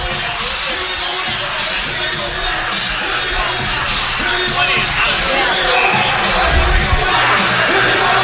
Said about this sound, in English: So we are just about ready for action. Pretty decent crowd here at the Malden Valley Forum.